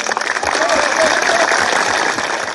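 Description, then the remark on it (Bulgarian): A crowd applauds at a Bulgarian Socialist Party (BSP) rally-march for International Workers' Day, 1 May, in a dense, steady wash of clapping that stays loud throughout, with murmuring voices and a faint thin whistle-like tone drifting through the middle. “Искам да изпратим с аплодисменти хората, на които ние вярваме.”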